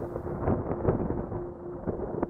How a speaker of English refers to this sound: The storm raged outside, wind howling through the cracks in the barn walls.